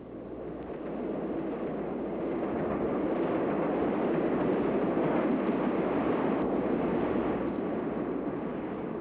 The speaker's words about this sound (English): All travelers to my city should ride the elevated trains that race along the back ways of Chicago.